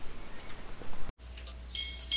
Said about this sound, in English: Oh, what was that cool bell noise in the background I just heard? Or was it somebody tapping on something? That was my ship's clock coming through the headset. I didn't think that it would.